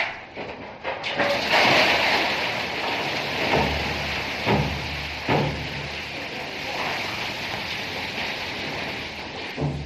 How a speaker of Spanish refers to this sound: Villarroya fue, no hace mucho tiempo, un enclave minero, donde ahora se ven olivares o pinos que cubren la tierra. Antes hubo galerías. Es el sonido de un carro minero o vagón minero que se volteaban de manera manual.